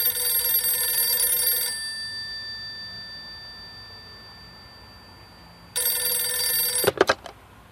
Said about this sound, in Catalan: Amb aquest escenari nou, molts clubs italians van llançar la xarxa per pescar Estiarte i arriba un dia que sona el telèfon a Manresa, encara al domicili familiar.